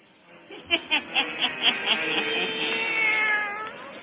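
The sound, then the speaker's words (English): Satan, a black cat, meows, starting with a quick string of short, clipped cries that stretch into one long, wavering, drawn-out yowl, with no voices around it. “Now let us join old Nancy and Satan, her wise black cat.”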